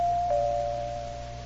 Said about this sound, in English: And among those memories will be the patrol car that drove up afterwards and the policeman who stepped out and rang the doorbell.